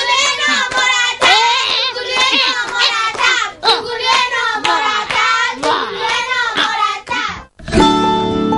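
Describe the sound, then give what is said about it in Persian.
A group of children clap steadily in rhythm, loud, as applause during a lesson with their teacher, while their high voices chant along over the claps, ending with a brief pause and a musical tone. “خانم معلم، خانم جانم، تشویق جوگولو تشویق.”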